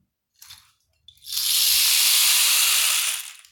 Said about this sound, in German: Die zwei Engel sitzen auf der Erde und schauen zum Himmel, der immer dunkler und dunkler wird. Es dauert nicht lange und es fängt an zu regnen.